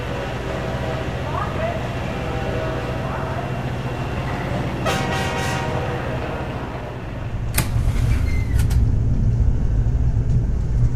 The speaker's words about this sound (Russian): Уважаемые пассажиры, поезд номер MC-326 отправляется с 6-го пути. Просим занять свои места в вагонах.